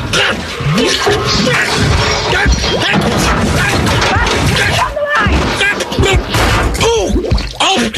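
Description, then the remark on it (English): A loud, chaotic crash as a car on a road slams into an occupied portable toilet and knocks it over, followed by continuous clattering, banging and tumbling as the toilet rolls down a hill, with voices shouting and exclaiming over the din throughout. “The car hit the toilet.”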